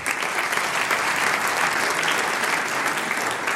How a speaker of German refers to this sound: Jetzt darf ich den Hausherrn mit Applaus auf die Bühne bitten, den Herrn Bürgermeister von Fronleiten, Magister Johannes Wagner. Bitte sehr.